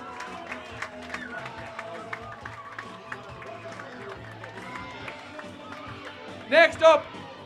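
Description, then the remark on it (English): A crowd applauds and cheers as a hurler is introduced at a celebration for Scariff's intermediate champions. A dense, steady wash of clapping and voices, with two sharp, loud bursts of cheering near the end. “A big round of applause,”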